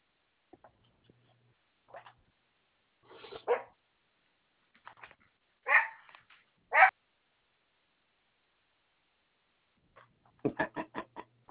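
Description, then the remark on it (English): Dogs bark in scattered single and double yelps, ending in a rapid burst of several barks, with quiet pauses between and no talking. “You're ignoring the dogs.”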